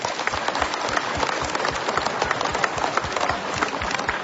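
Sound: warm applause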